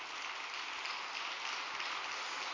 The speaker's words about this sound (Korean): 네, 천지인 참 부모님께 감사의 큰 박수를 좀 올려주시기 바랍니다.